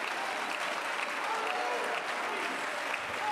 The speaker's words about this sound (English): Somebody clap your hands to the Lord.